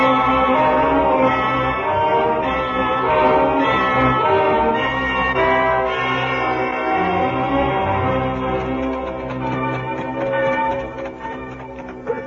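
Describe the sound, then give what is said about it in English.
A prison alarm bell rings loudly and without pause, a dense metallic clangour with layered ringing overtones that holds steady for several seconds before thinning slightly at the end. No one speaks. “That's no church. That's the alarm bell at the prison.”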